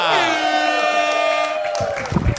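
A loud, sustained cheer rings out, a drawn-out whooping tone that sweeps downward and holds, with a burst of crowd noise near the end and no talking.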